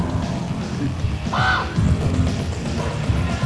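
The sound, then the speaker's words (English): A large bird, a squab, lets out one short, harsh call, standing out briefly over a steady low outdoor rumble and background noise. “It's a big fucking bird over there.”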